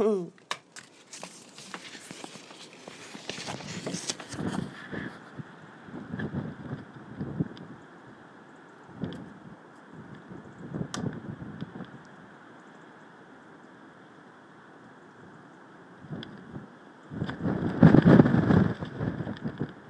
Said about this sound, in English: It's really strong winds outside, about 60 or 70 miles an hour. In fact, everything's closed. Even the trains. Everything. Don't know if you can hear the wind.